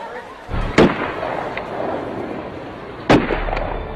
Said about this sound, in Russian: Раздается выстрел, потом еще один.